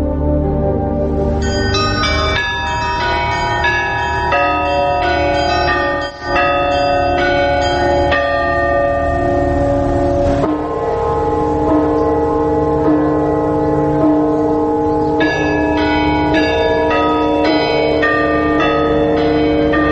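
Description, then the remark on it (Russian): Orthodox church bells ring loudly in a dense, continuous peal, several bells overlapping with long sustained tones and fresh strikes layering in throughout; no voices are heard. “Ангелы православные звучат колоколами.”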